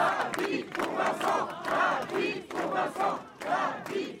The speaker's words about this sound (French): C'est sous une pluie battante et accompagnée des slogans des quelques 200 militants présents que Viviane Lambert et son mari Pierre sont arrivés devant l'hôpital cet après-midi.